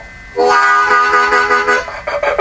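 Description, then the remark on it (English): A loud harmonica blares a sustained, gritty note with a rough, distorted edge, its tone shaped by the player's throat, chest and hands, wavering slightly for about two seconds before briefly dipping and returning. No one speaks. “I mean, the tone that you get from the harmonica comes from the back of the throat and the chest and your hands.”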